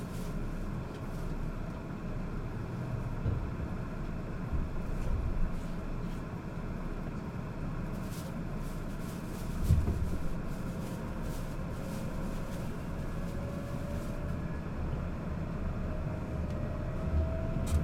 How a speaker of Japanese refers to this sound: ご乗車ありがとうございます。特急列車石口2号高松行きでございます。